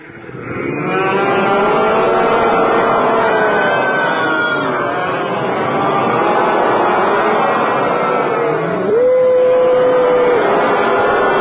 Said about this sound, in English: And the cows, in ecstasy, as their little calves were drinking their milk, they were loudly mooing.